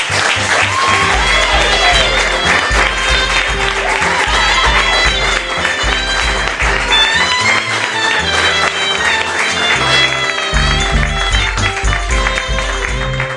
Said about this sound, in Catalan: Així que rebem-lo com es mereix, amb uns aplaudiments ben sincronitzats.